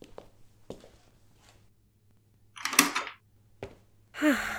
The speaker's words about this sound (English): Don't worry about why I locked the door.